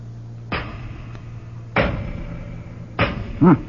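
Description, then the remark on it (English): A hammer pounds thick doors three times as someone tries to get them open, the heavy blows spaced more than a second apart, each leaving a booming, ringing decay over a low steady hum, with a brief creak after the last. “Throw me a hammer, would you?”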